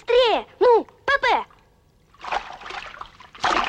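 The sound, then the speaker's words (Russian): A voice speaks briefly, then a loud splash and sloshing water follow as a life ring is thrown over a ship's side onto the water, landing with a heavy splatter. “Бросает его на воду.”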